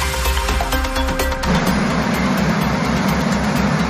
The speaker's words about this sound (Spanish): Este sonido que escuchaban ahora es el del agua rebosando por encima de las compuertas del pantano de Ullecona, en la Pobla de Benifassà, en el norte de la provincia de Castellón.